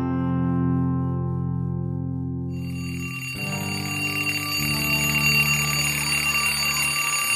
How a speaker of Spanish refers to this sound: ¡Ay, al fin! ¡El timbre! ¡Sí! Estaba recontra aburrida en esta clase.